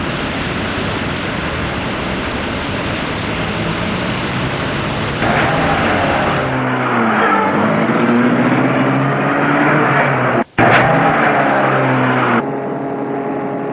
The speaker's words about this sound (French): Et il l'amène à sa voiture qui est une BMW bleue. Là, elle est surprise, mais ne fait pas de réflexion. Il la fait rentrer dans la voiture et entre lui-même pour la mettre en route.